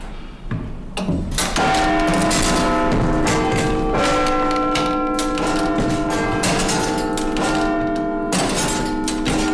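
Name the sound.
clock tower bells ringing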